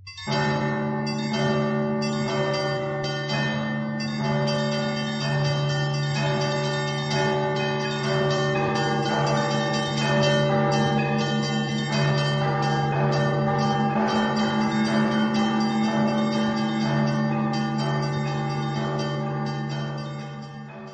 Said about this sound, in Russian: Часто в храмы приезжают владыки, епископы, там, патриарх, и их встречают так называемым встречным звоном. Когда машина архиерея приближается к храму, и вплоть до входа его в храм, все это сопровождается колокольным звоном.